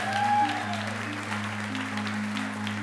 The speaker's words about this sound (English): And let's give her another round of applause.